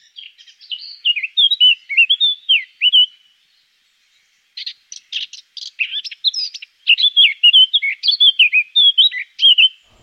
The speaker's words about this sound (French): On y va, la fauvette à tête noire.